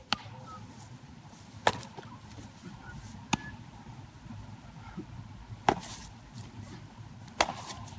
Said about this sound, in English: that was the sound of summer, was like the sound of a ball getting into a glove.